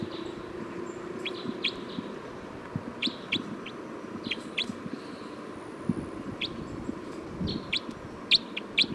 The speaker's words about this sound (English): Stop. Recording bird 305.